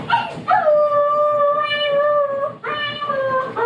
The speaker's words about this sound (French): Certains chiens, même régulièrement sortis, ne supportent pas la solitude. C'est la terreur des propriétaires, car ces hurlements gênent tout le voisinage.